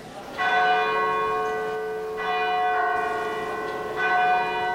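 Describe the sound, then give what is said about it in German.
Church bells of St. Martini, a nearly 700-year-old brick church in Emmerich on the Rhine, ring out loudly with rich, sustained metallic tones, three strikes overlapping as each new peal swells over the lingering hum of the last. No voices are heard. “Die Backsteinkirche St. Martini, fast 700 Jahre alt, wurde immerhin wieder aufgebaut.”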